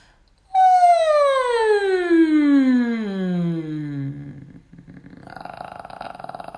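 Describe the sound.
A single voice glides smoothly downward from a high pitch to a low one over about four seconds in a descending siren vocal exercise, loud, followed by a quieter stretch of faint sound.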